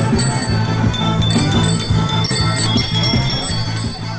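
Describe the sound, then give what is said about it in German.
A crowd of bicycle bells rings continuously and overlapping during a large group bicycle ride through Dortmund, Germany, bright metallic trills layered over music with a steady low beat, loud throughout; when one rider rings, all ring. “Man hört, es gibt Musik und die total süße Regel, wenn einer klingelt, müssen alle klingeln.”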